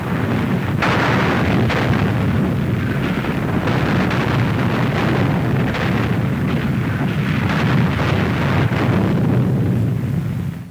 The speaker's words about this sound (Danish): Det er sådan lidt krigslarm fra kampene ved Vitebsk, som jeg har hentet fra sovjetisk propaganda. Så må man jo håbe på, om det reelt er optagelser.